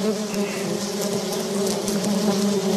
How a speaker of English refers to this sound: What a buzz. The closer we get to the gardens, the louder the sound of bees. Look at the flowers. The bees, the colors, the butterflies.